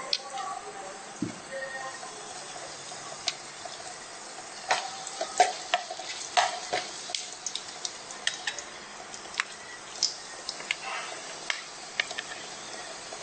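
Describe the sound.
Steady, soft sizzling as curry powder mixed with a little water is sautéed in a pan, with scattered sharp clicks and scrapes as the mixture is stirred, moderately quiet, with a faint murmur of voices at times.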